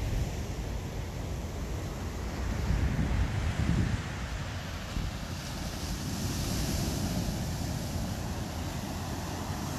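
Heavy ocean surf rolls and crashes continuously on a beach as the sun gets ready to set, with a louder surge of breaking waves partway through, all blended with a steady roar of wind buffeting the microphone. No one speaks.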